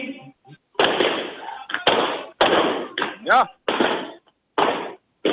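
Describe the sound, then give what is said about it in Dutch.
Pink and blue balloons popping during a finale in a loud, irregular series of sharp bangs, each a sudden crack with a short noisy tail, about half a second to a second apart, with voices talking briefly between them. “Ja, alle ballonnen moeten natuurlijk stuk.”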